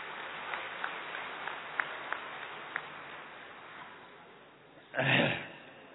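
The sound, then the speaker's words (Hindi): A handful of scattered, faint claps from an audience of people from Madhya Pradesh, clapping for themselves, tap out irregularly over a low hiss, then a short, loud burst of clapping-like noise flares up briefly near the end before fading. “तो रास के लिए हमारे मध्य प्रदेश के भाई बहने बहुत मशहूर हैं, अपने लिए ताली बजा लो थोड़ा।”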